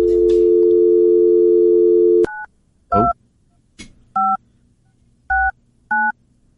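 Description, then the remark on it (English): A steady dial tone hums for about two seconds, then cuts off as a series of short two-pitch touch-tone beeps sound one after another, evenly spaced and clear, dialing a number that reaches the Diamond Factory ticket hotline. “Let's give somebody a call here, shall we?”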